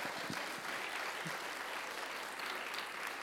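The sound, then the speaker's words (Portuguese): An audience applauds God steadily, a dense, even wash of many hands clapping that holds at a constant loudness for a few seconds with no voices rising above it. “É ele que tem o poder, pode aplaudi-lo.”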